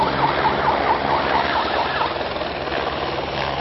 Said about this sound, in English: He's using that siren either to herd the wildebeest a bit, but he's also using it to indicate when people actually have to close the curtain.